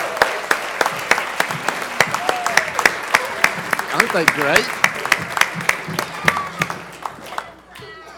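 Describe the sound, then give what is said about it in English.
A crowd applauds the children and volunteers steadily for several seconds, sharp overlapping claps filling the room before tapering off, while a voice speaks briefly over the clapping. “I want to thank you for allowing your kids to be with us today, and let's applaud our kids and our volunteers.”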